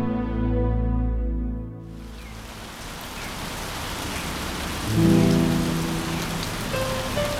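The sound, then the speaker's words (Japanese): Heavy rain pours down in a dense, steady roar, drumming hard on the ground after a brief low humming tone at the start; a faint tonal sound surfaces briefly midway. “雨の粒は我先にと地面を濡らし、水の集合体となって暴力的な音を立てる。”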